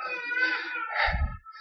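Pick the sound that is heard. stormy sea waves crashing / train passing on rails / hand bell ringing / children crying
children crying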